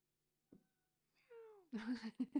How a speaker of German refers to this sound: Mau, mau. Die Katze will Aufmerksamkeit.